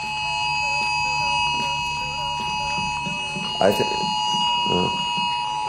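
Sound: phone ringing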